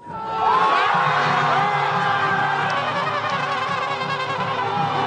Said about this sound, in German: Das, was sich anhört wie der Jubel bei einem Fußballspiel, ist die Freude über den Moment, der das vorläufige Ende einer beispiellosen politischen Krise in Südkorea markiert.